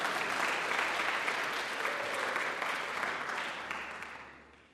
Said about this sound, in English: Thank you very much. Let's give this guy a great hand of applause.